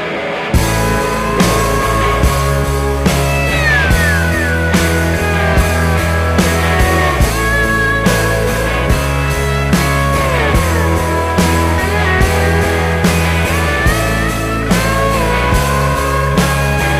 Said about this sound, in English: Then she assembled a new band, and now her new CD is about to be released. This is the lead-off track and also the title track.